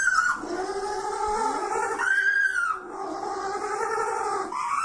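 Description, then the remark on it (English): A penguin gives a long run of squeaky, whining calls that waver up and down in pitch, nearly unbroken for about five seconds, with no one talking over it, as its trainer tickles it under its wings. “What's the noise? That's both the penguin.”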